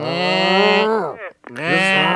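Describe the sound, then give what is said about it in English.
A person vocally imitates the groaning power steering pump of a 1989 Ford Taurus station wagon when the steering wheel is turned, with two long, loud, droning moans separated by a brief pause, sounding strained and cow-like. “I have a 89 Taurus station wagon, and when I turn the steering wheel, it sounds like I'm dragging an anchor chain. I'm gonna make the noise for you.”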